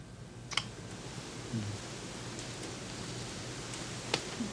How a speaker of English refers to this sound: Oh, it's still raining.